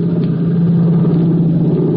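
A steady, unbroken engine drone with a strong low hum, holding a constant pitch and loudness throughout, with no voices, like airplane engines cruising.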